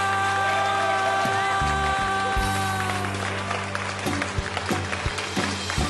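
An audience in Miami claps steadily for several seconds after a singer's performance, a dense, crackling wash of applause. A sustained musical tone hums faintly underneath.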